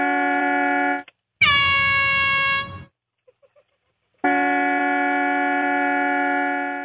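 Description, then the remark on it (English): A car horn honks in three loud, sustained blasts: a short one, a brighter one that starts with a quick pitch drop, a few faint ticks, then a long steady honk that fades. “Yeah, but you don't have it with a car horn.”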